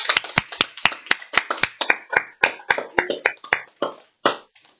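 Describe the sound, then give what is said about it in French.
Applause from what sounds like a small group welcoming guests to a radio club in Brou, a run of sharp, fairly steady hand claps, loosening and thinning out toward the end. No voices. “bienvenue dans notre club radio, la radio FR de Brou, sous un tonnerre d'applaudissements”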